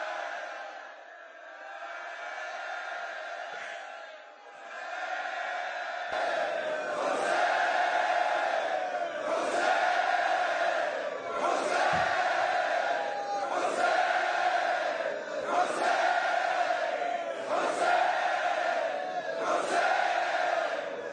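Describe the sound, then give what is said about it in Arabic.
A large crowd chants the name Husayn in loud unison, the shout repeating in a steady rhythmic pulse roughly every one and a half seconds, massed voices filling the space throughout. “ستبقى مجالسنا وستبقى شعائرنا وستبقى أرواحنا وستبقى دماؤنا فداء للحسين، وستبقى أصواتنا تصيح حسين.”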